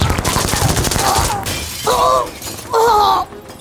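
A large glass wall shatters as a woman falls through it: a loud crash of dense crackling shards raining down, followed by two shorter bright, ringing bursts of breaking glass.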